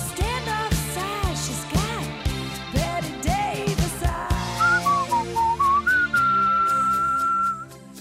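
A bright whistled melody rides over an upbeat pop backing track, gliding through short swooping phrases before settling into a long, steady held note near the end.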